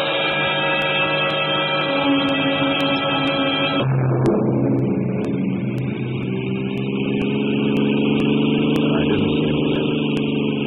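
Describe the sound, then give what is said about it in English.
A car engine hums steadily as the vehicle drives along a road, with a noticeable drop in engine pitch partway through, like a gear change, before settling back into an even drone. “I stopped the car at a sleepy little junction just across the border into Oklahoma to let a train pass by.”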